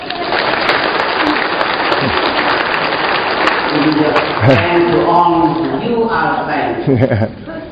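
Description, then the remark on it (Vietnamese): A crowd claps in sustained, dense applause for several seconds to welcome those who want to become saints, then it thins out as a voice begins speaking over the last scattered claps. “Rồi chúng ta xin chào mừng tất cả những vị thánh ấy bằng một tràng pháo tay.”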